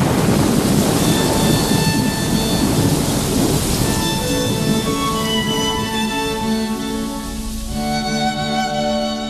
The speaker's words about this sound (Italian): La pioggia era diventata torrente e portò subito via i resti del topo.